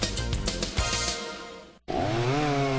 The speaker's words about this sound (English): You want a chainsaw that starts easy, runs smooth, and provides years of dependable performance. You want an Echo chainsaw, built to tackle the toughest jobs.